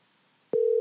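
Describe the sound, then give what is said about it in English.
After a quiet stretch, a loud, steady telephone ringing tone starts abruptly as an outgoing call is placed, holding at one mid-low pitch to the end. No one speaks. “Speaking of short, we're going to get him on the phone right now. I'm going to call him.”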